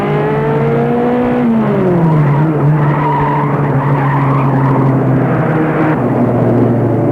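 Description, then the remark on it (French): A car engine revs loudly and steadily, its pitch shifting as the car drives off down the road after a storm has calmed, with a droning hum and no voices. “Sans rien te dire, ils sont allés vers la voiture, la main dans la main, se sont habillés et sont repartis sur la route.”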